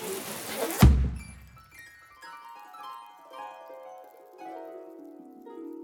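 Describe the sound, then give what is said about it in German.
A single loud, deep bang from a confetti cannon showering heart-shaped confetti bursts out near the start, followed by a trail of bright, shimmering tones that ring on and slowly fade. “Kaum waren sie ins Herzhaus hereingetreten, gab es einen lauten Knall und eine Konfettikanone überschüttete die beiden Socken mit herzförmigen Konfetti.”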